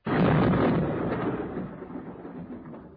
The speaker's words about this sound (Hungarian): Na, már dörök is. Tévedés, tévedés, kedves ellenségem, nem a menny dörög, megint tarack ütegeink királyságotok határain.